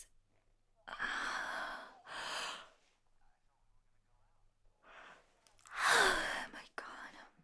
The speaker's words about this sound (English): Hey, why is it that as soon as I touch a blanket, I yawn and I get fucking sleepy?